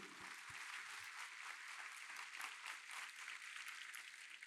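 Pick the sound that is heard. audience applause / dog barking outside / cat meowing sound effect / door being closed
audience applause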